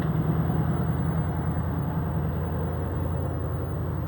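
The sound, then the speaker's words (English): A log loader's heavy engine runs steadily as it picks up logs and loads them onto a truck, a loud, continuous low diesel rumble with an even throb that holds for the whole stretch, with no voices. “What does it do? Get logs and load them on a truck”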